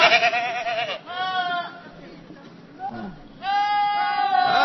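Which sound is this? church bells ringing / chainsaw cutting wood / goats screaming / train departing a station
goats screaming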